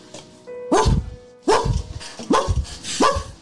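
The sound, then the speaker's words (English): A dog barks four times from behind a door, in a steady, evenly spaced rhythm, each bark loud and full with a deep, booming body, with no talking alongside. “There's a dog barking from the door directly in front of you, from behind the door.”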